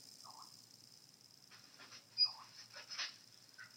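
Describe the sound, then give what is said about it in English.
A puppy with a hurting neck whimpers softly with short high whines, between quick breathy bursts of panting; the sounds are faint and there is no talking. “Puppy?”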